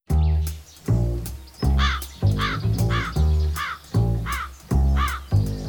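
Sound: crow cawing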